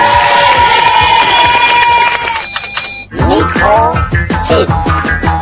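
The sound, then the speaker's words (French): A loud burst of audience cheering and clapping for four prize winners plays over a bright electronic jingle, then the crowd breaks into excited, high-pitched shouts and whoops that continue to the end. “Bravo à tous les quatre, on peut les applaudir, ils l'ont bien mérité.”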